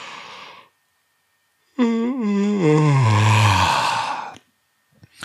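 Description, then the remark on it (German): A person gives a long, drawn-out yawn: a brief breathy inhale, a pause, then a loud voiced groan sliding downward in pitch for about three seconds before trailing off into a faint breath. “Jetzt kannst du mal überprüfen, ob du auch gleich gähnen musst.”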